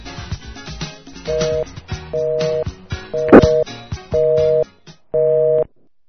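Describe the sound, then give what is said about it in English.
A telephone busy signal during a prank call beeps five times in a steady on-off rhythm, each flat two-tone burst lasting about half a second, loud, over muffled background clatter. “Shut up, fucking phone.”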